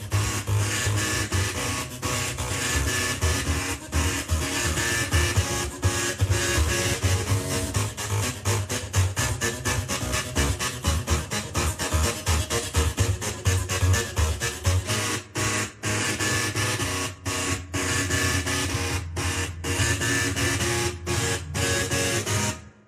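A printer's motors whine and buzz through a pop tune, pitched mechanical tones stepping out a melody over a steady, rhythmic chugging. Loud, with no voices.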